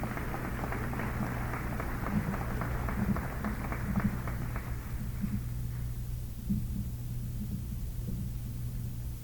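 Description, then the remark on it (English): An audience breaks into a round of applause, dense crackling claps over a low steady hum, thinning out and tapering off over the last few seconds. “We will deliver it to her home, but perhaps you'd like to give her a round of applause in absentia.”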